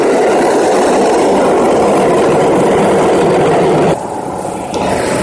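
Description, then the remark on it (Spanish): A train passes through a station with a loud, steady, deafening rumble and broad rushing noise that holds for about four seconds, then drops off abruptly to a quieter mechanical hum. No one speaks. “Quiero dejar pasar un poco los trenes porque el ruido es ensordecedor cuando pasan los trenes, y yo creo que merece la pena que por lo menos nos enteremos de lo que vamos hablando.”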